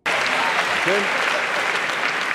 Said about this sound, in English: Men says what women want to hear and use a specific keyword, slavery. Crowd claps.